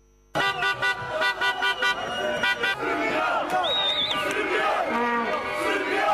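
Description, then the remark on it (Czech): A noisy crowd in Banja Luka celebrates late into the night over the Serbian basketball team's silver medal at EuroBasket. People cheer and shout while car horns blare over and over, the honks coming in a rapid, rhythmic series of blasts at first, then blending into continuous loud celebration with whistles. “Slavila je Banja Luka sinoć do kasno u noć srebro srpskih košarkaša na Eurobasketu.”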